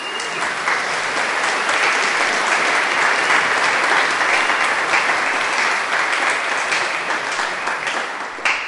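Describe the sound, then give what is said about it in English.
An audience at a cathedral service claps steadily for several seconds for a 92-year-old member, a dense, even wash of many hands applauding at a sustained, fairly loud level with no speech over it. “and we have a celebration because I really feel that if someone is 90 or over, they deserve a round of applause.”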